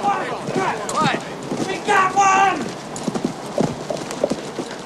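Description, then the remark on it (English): A lone rider's horse gallops up to a jailhouse, hooves pounding the ground in a quick, fairly loud rhythm, with a short whinny rising partway through before the hoofbeats slow and scatter. “Later, a lone rider gallops up to the jailhouse posse.”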